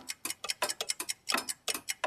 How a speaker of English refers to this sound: Wow, how many clocks have you got? 99 clocks. Clocks?